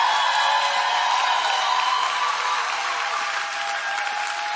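An audience applauds with dense, steady clapping that holds at an even, loud level for several seconds, with no talking.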